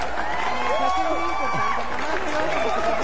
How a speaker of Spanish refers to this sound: Ah, muy bien, mira Paco, para ti, tus aplausos.